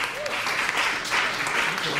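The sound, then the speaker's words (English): A crowd in Iowa claps as a noise poll of who has tried the hemp drinks available in Iowa, a dense, even patter of many hands, fairly loud throughout, with faint voices mixed underneath. “How many have tried the hemp drinks that are available in Iowa? Let's hear your applause.”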